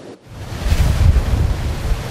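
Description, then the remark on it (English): Large Pacific Ocean waves, 25 to 35 feet high in a storm, pound and crash against the Pacifica Pier, which is at least 30 feet high, breaching its underbelly; a loud, continuous roaring surge with heavy low rumble and gusting wind buffeting the microphone. “tell that to the Pacific Ocean, which is pounding the Pacifica Pier right now.”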